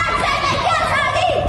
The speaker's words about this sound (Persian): عده زیادی کودک و نوجوان. نشانه‌ای از فراگیر شدن بیشتر اعتراضات. نسلی که زن، زندگی، آزادی را این چنین فریاد می‌زنند.